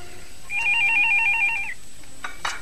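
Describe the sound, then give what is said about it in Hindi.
A telephone rings once with a warbling electronic trill lasting about a second, clear, followed by a brief rustle and click. “Telephone उठाइए, आप ही का होगा।”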